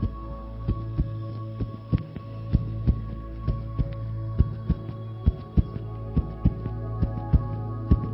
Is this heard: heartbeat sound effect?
yes